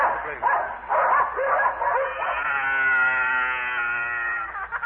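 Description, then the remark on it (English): A burst of excited yelps and yips from sled dogs as the sled sets off, loud, runs into a long, drawn-out whining howl that holds steady for a couple of seconds before cutting off. “Well, hop on my dog sled. Come on, dogs. Mush.”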